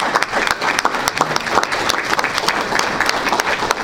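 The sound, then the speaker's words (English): A crowd of people applauding steadily for a teacher voted Teacher of the Year by the students of Norton High School, dense overlapping claps forming a continuous, fairly loud wash of sound with no pauses throughout. “So I think that's worth a round of applause.”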